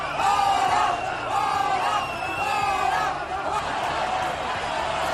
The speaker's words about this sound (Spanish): Gritos de fuera fuera, gritos de queremos votar, cuando se supone que era una manifestación de apoyo a las víctimas y de condena a los atentados de Cambrils y de las Ramblas.